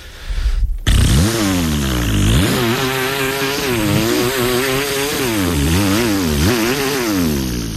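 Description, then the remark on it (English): A person imitates a chainsaw with their voice: a loud, buzzing drone that revs up and down in pitch several times and continues steadily for several seconds. “I can give you a chainsaw noise if you want.”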